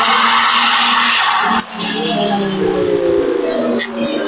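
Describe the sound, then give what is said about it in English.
A truly historic, very old, bullet-shaped silver Formula 1 race car is driven at a motorsport festival, its engine roaring with a broad, harsh whine, briefly dipping before surging again, with a raspy, tire-like squeal layered over the steady mechanical drone. “The noise you've just heard is David Coulthard driving a truly historic bullet-shaped silver, very, very old F1 car.”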